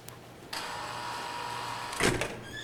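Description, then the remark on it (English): A secure door opens to let visitors into a unit, with a steady electric motor whir that starts abruptly, holds an even hum, then ends in a brief louder mechanical clunk and rattle. No voices. “A secure door opens to let visitors into Shelly's unit.”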